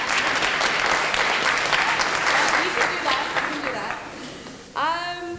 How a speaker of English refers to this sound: Round of applause.